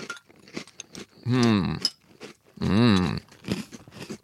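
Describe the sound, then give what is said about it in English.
Crunching of dry Cinnamon Toast Crunch cereal being chewed in quick irregular bites, broken by two longer voiced hums from the person eating. “Yeah, I haven't been trying these dry, but I just tried this one dry. It's very good.”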